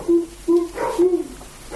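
A dog barks three times in the distance, short hollow yelps about half a second apart, faint against a quiet background with no one talking.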